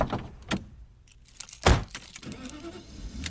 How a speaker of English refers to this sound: … begins with the sounds of the boy getting in and starting his car